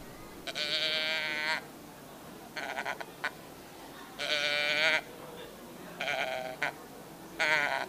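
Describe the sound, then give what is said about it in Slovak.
A person imitates a sheep's bleat, as used to lure a mouflon during the mouflon rut, giving five loud, wavering 'baa' calls, some long and some short, with brief pauses between them and no other talking. “V čase muflonej ruje viete k sebe muflona prilákať bez problémov, viete privábiť tým, že imitujete ovcu.”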